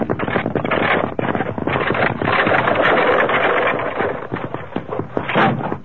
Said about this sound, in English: Kimasabi, what that? Evidently a runaway wagon wheel. Steady, Silver. Must have rolled off the main trail up above us.